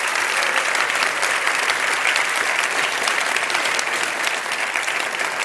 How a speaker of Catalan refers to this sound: Continuem amb agraïments, si és que aquest festival no seria el que és sense el suport dels nostres voluntaris i de l'equip que el fa possible i tenim, bueno, volem un aplaudiment per ells també. Un fort aplaudiment, gràcies.